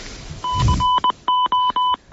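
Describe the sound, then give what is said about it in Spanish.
A mobile phone rings with a steady, mid-pitched electronic beep that pulses on and off in a quick, repeating pattern of short and longer tones, with a brief low thump near the start. “Cuando suena móvil es una ronda”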